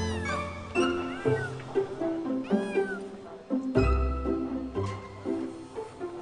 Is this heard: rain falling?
no